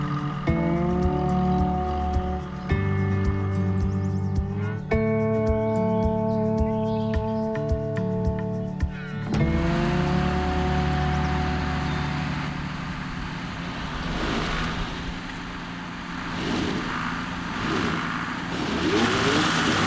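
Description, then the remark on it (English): A tractor stuck behind a barn revs hard and repeatedly, its droning pitch climbing in surges, then turns into rougher, noisier straining bursts as it struggles without getting free. It sounds loud, with no talking. “Hey, I got the tractor stuck behind the barn.”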